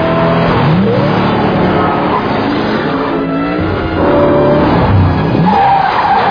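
A car roars at high speed while its tires skid and squeal repeatedly, sharp rising and falling screeches cutting through a loud, steady engine rumble.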